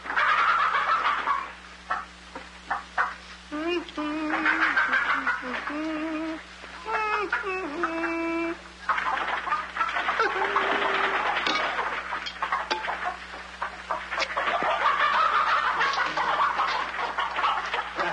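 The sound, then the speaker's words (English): Several chickens cluck and squawk in short, repeated bursts while being fed, with a cluster of sharper calls in the middle, set against a steady, rustling background of farmyard noise. “Well, feed the chickens.”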